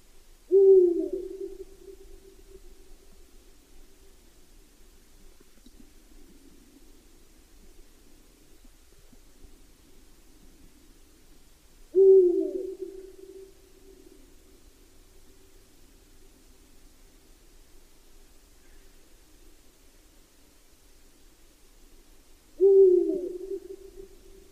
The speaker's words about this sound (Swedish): Vi inleder med lite höstlig fågelsång.